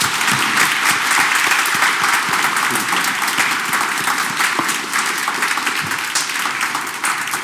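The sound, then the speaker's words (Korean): An audience at Mass applauds together to encourage student volunteers, a dense, steady wash of many hands clapping that stays loud and even for several seconds, with no voices standing out. “그 학생들을 위해서 수고했다고 격려의 박수 한번 보내주시겠습니까?”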